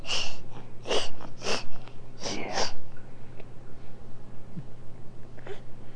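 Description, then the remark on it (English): A voice imitates a snake with a series of about five short, breathy hisses in quick succession, followed by a few seconds of quiet background hum. “How about the snake?”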